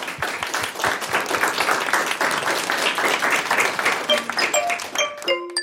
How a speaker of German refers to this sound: Und nochmal einen großen Applaus für euch alle.